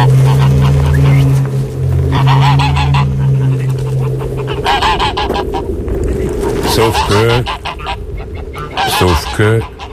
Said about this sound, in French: C'est exactement la moyenne montagne. On est à 500 mètres d'altitude, exactement. Sapin, rivière, il y a tout, quoi. Ouais, des oiseaux, il y a tout pour être heureux.